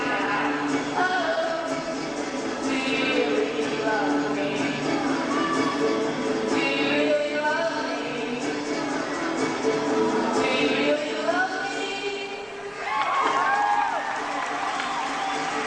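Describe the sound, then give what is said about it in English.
A concert crowd screams and shrieks without pause, high overlapping voices rising and falling over a dense, steady roar, with the audience stomping hard enough to shake the floor, mixed into the loud din. “The audience is stomping and screaming.”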